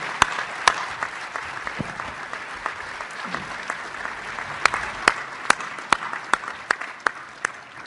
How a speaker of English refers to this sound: So let's give a round of applause for our speaker. Thank you all very much.